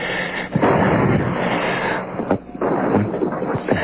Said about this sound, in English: Shooting. Downtown. The shooting.